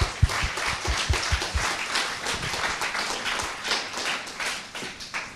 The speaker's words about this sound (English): And, you know, I would like for you to give yourself a round of applause for being an awesome church.